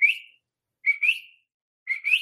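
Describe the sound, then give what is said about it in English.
A person whistles an imitation of a coqui frog's call three times, each a short rising two-note whistle, co then qui, with pauses between, fairly loud. “I heard the coqui whistling. It's this tiny and it's able to make this very loud whistling sound.”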